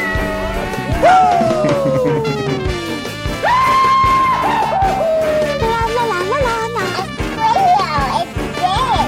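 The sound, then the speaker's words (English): A cat meows loudly in long, drawn-out cries, each pitch sliding downward, several in a row over a busy, cluttered background. “Have you by any chance lost your kitty?”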